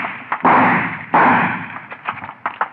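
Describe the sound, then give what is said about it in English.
Gunshots in a shootout with a man behind a soda fountain: two loud, sharp gunshots roughly a second apart, each with a ringing tail that fades, followed by several quicker, fainter cracks and pops. No one speaks. “Who's going to shoot who, copper? Say it again, huh? Who's shooting who?”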